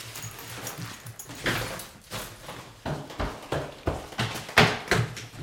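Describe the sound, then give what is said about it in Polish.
A door that was left unlocked opens and someone comes in, with a string of moderately loud thumps and scuffs, like the door knocking and steps crossing the floor, and no one speaking. “Widzę, że nie zamknąłem drzwi.”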